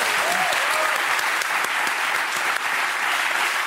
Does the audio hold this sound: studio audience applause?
yes